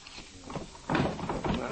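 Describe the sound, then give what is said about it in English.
A desk drawer in a home office is pulled open during a search of the desk, with a wooden scrape and a rattle of contents, moderately loud, following a few softer knocks and shuffles. “Well, we'd better check the desk first. Bill, you take this drawer, Inspector.”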